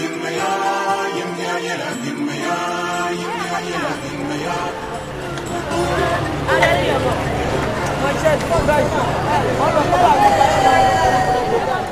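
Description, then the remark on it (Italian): A crowd of immigrants gathered in Piazza Santa Chiara, a square with Ivorian bars, chatters steadily, many overlapping voices forming a dense, lively babble that holds at a fairly loud level throughout, with occasional louder voices rising above the mix. “Passare una serata a Piazza Santa Chiara, tra la musica dei locali ivoriani e le chiacchiere della folla di immigrati che qui si riunisce, può essere molto divertente.”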